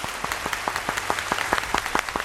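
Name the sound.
studio applause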